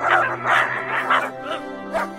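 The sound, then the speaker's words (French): Dogs of the surrounding area, roused by the arrival of a strange equipage, bark repeatedly, harshly and menacingly, about five loud, sharp barks in quick succession over roughly two seconds, with a low steady hum underneath. “L'apparition de l'étrange équipé avait ameuté tous les chiens des environs, qui aboyaient d'un air menaçant.”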